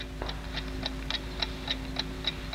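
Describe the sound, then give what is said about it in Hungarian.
A small wristwatch, just unbuckled from the wrist, ticks steadily: about eight or nine crisp, evenly spaced clicks over a faint low hum, with no voices. “Tehát lecsatolom az órám.”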